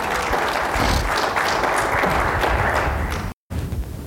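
A church audience claps steadily and loudly as a clap offering to the Lord, a dense, continuous wash of applause that carries on for several seconds with a brief cut near the end.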